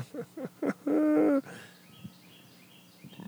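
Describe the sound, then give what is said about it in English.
Birds call: three quick hooting notes, then a louder drawn-out call, followed by a quieter background with a few faint calls. No one speaks. “Oh, there's the but birds.”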